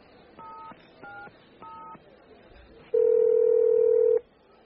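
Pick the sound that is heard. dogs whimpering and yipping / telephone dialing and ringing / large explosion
telephone dialing and ringing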